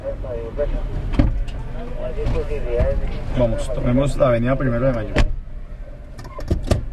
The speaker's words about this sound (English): He begins the story on a police patrol riding through the mean streets of Bogota.